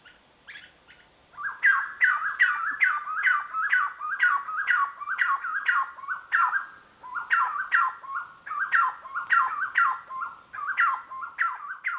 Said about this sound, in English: Well, in parts of Colombia, where that species lives, people call it aguacero vienteado, which I believe is Spanish for windy rainstorm. This refers to the chestnut wood quail's call.